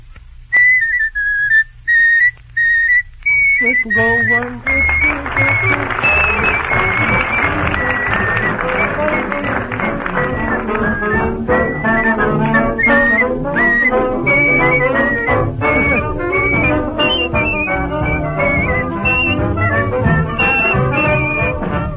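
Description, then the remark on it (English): A man whistles a melody in clear, sustained notes. After a few seconds, steady crowd noise like applause rises beneath the whistling and continues as the tune carries on. “Could you whistle it for us, if you will?”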